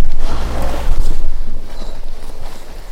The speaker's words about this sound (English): When you start hearing those big breaths like that, that means the bear's coming out of the anesthetic plane. So these nice, big, deep breaths, those are really good.